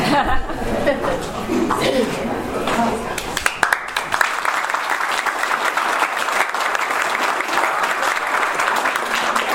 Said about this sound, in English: One of the very few times I ever was applauded for opening my mouth.